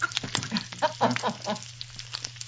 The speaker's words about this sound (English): I'm just frying some bacon over a pan.